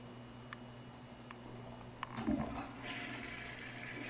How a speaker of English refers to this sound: Oh, my God. Stop flushing the toilet, sir. It wasn't me.